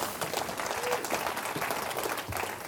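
A church audience breaks into steady, dense applause for a speaker, many hands clapping at once in a continuous wash of sound that stays fairly loud throughout, with faint voices mixed underneath.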